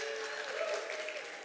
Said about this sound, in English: And, I'm glad you clapped